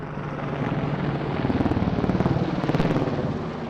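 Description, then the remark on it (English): Apache attack helicopters roar overhead at the Grayling Air Gunnery Range, above a clearing cut from the northern Michigan pines on a blue day with white puffy clouds, a loud, steady wash of engine noise with a rapid rhythmic rotor chop that swells and grows more pronounced partway through. No voices. “Apache helicopters swarm like giant armored dragonflies above this sprawling expanse cut from the northern Michigan pines.”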